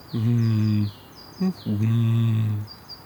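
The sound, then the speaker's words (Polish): Deep, hollow booming notes of a Eurasian bittern, a heron found in reedbeds: two long, low resonant tones separated by a short grunt, with faint higher whistling sounds above them. “U zwierząt takie dźwięki basowe wydaje na przykład bąk, czapla, którą możemy spotkać w trzcinowiskach.”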